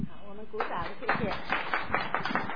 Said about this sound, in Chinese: 我们鼓掌，谢谢。